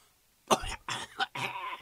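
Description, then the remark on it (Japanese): A person imitates a fit of coughing, mimicking a passenger at the back of a train who could not stop coughing: four harsh, breathy coughs in quick succession, fairly loud, with no other talking. “後ろの方で一人咳してる人がいて、それが止まらへんね、咳が。”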